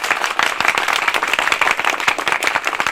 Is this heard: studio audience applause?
yes